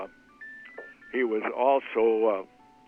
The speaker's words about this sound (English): You got something ringing like a phone? I just turned it off. That's okay. I just wondered. I didn't want it to be me. No. I was getting a call on my phone.